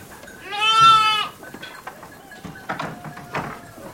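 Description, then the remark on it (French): A single loud, wavering sheep bleat rings out on a farm, followed by quieter scattered farmyard noises and faint bleats. “On va la laisser aller avec les moutons, les mieux.”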